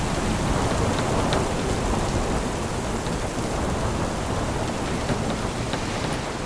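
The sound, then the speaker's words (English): A heavy storm at sea at night off Cape Finisterre, Spain, growing stronger around a sailing ship, with dense, steady rain pouring down and a deep, continuous low rumble like thunder underneath. The downpour stays loud and constant throughout, with no voices. “As night falls, the storm gets stronger.”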